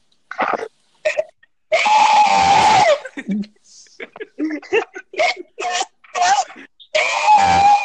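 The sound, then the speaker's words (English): A voice imitates an old woman's scream: a loud, strained, sustained wail, followed by choppy vocal yelps and sputters, then a second drawn-out shriek at the end. “can you do that grandma scream?”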